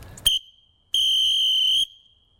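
A shrill hammerhead referee whistle gives a quick short chirp, then a single steady blast held for nearly a second at a constant high pitch, with no trill or warble.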